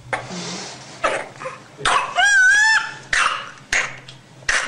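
A baby with whooping cough (pertussis) coughs in harsh, repeated bursts, then draws in a long, high-pitched whooping gasp for breath before the coughing fits resume, loud.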